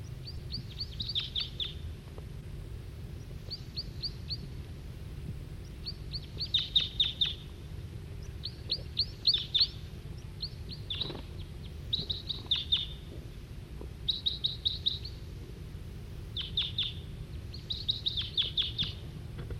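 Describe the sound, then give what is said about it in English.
Wild birds calling and singing, a male giving song while other birds give flight calls: repeated bursts of high, bright chirps and short trills arrive in clusters every second or two, over a steady low rumble of background noise, with no talking. “Now both 40 and 5-7 on the side giving calls. Still pointing at the male who's giving song.”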